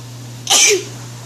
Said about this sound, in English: There's just a lady sneezing. Yep. Ugh. People just put videos of themselves sneezing.